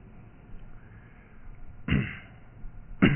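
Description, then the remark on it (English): Two sharp coughs about a second apart from a speaker with a lingering cough, each a harsh burst breaking a quiet background, with no talking in between. “I am doing a little better with my coughing, but not a whole lot better.”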